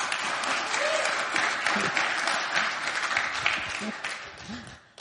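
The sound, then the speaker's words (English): An audience claps enthusiastically, a dense, steady wash of many hands that holds strong for several seconds before tapering off at the end, with faint voices mixed in underneath. “If you're going to clap, do it with enthusiasm.”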